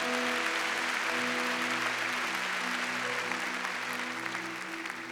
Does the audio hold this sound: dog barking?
no